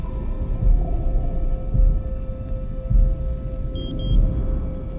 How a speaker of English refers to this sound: And it's not until the diver duck dives and goes into the water that you start getting into the submarine sound of what you would hear underwater.